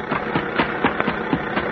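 car engine running

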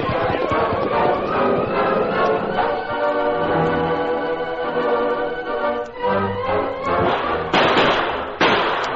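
distant gunfire

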